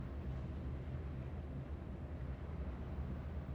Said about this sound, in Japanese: 静かな分、ディーゼルエンジンの音はとてもよく聞こえますね。